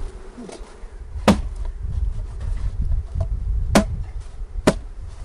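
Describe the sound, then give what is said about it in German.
A steady, low drone of many honeybees humming around an open hard-polystyrene hive as a beekeeper works it, broken by three sharp knocks spaced a second or two apart. No one speaks. “Das mache ich nur, damit ich möglicherweise keine Biene dann erdrücke, die da unten herumwuseln.”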